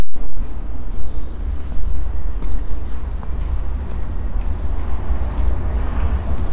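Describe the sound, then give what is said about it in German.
A steady low rumble of city traffic in St. Petersburg fills the scene, while a few thin, high bird chirps surface now and then above it. No one speaks. “Aber das sind nicht die Vögel im Kreuzviertel und auch nicht der Straßenverkehr im Kreuzviertel, sondern das sind St. Petersburger Vögel.”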